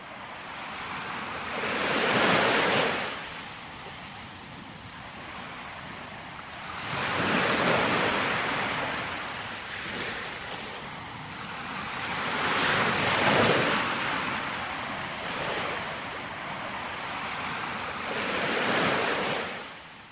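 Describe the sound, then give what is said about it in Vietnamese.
Ocean waves crash onto the shore in repeated broad surges about every five seconds, each swelling loudly then washing back, with steady wind and surf hiss in between. No voices. “Và như để đáp lại, những con sóng bủa vào tới tấp, xoáy tròn dưới chân vua.”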